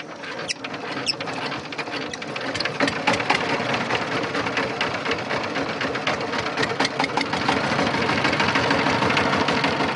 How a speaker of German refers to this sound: Einer der Männer startet den Motor mit einer Handkurbel und ab geht die Fahrt zum nahegelegenen Bauernweiler.